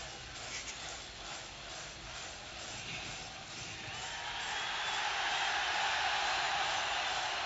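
A large crowd roars and cheers, a dense, hissing wash of many voices that swells louder about halfway through and stays at that level to the end.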